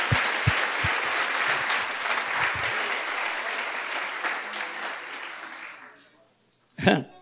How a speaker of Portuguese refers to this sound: Podemos aplaudir Jesus que nasceu por nós.